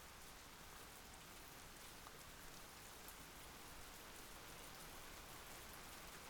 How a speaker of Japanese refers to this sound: 雨、全然止みそうにないね。まだ結構降るのかな。